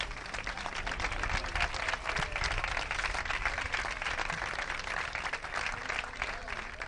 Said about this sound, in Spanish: Por favor, un aplauso, un aplauso.